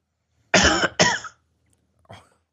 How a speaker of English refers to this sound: Why don't you just do like this on the thing, like you're pushing a button, and that'll make me cough.